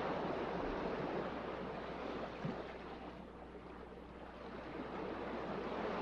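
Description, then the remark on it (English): Steady ocean surf washes continuously onto the shore, a broad rushing roar that swells and eases slightly, with no voices present. “If you're distracted by thoughts that pop into your mind, simply go back to listening to the ocean, the seagulls, or focusing on your breath, letting the distracting thoughts pass through your mind and out.”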